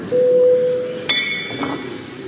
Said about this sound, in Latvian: Tādā gadījumā lūdzu zvanu.